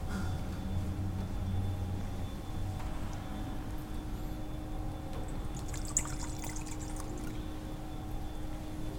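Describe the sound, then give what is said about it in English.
A quiet, soft trickle of water being poured into wine in a chalice during a church liturgy, set against a steady low background hum with no voices. “By the mystery of the commingling of this water and wine, may we come to share in the divinity of him who”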